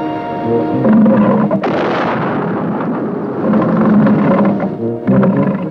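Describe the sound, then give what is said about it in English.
A loud, low, gurgling burp stretched and looped into a throbbing, sputtering motor drone, with buzzy harmonics and a rougher, noisier surge partway through before the steady chugging returns. It was made as the comical motor sound of the Pink Submarine in the film Operation Petticoat. “And so when Blake Edwards needed a comical motor sound for the Pink Submarine in Operation Petticoat, Foley supplied the main sound element by recording a big burp, then looping it.”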